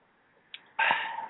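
Someone takes a little sip of Fresca soda: a small wet click, then a louder breathy, gulping sound that trails off, with no talking.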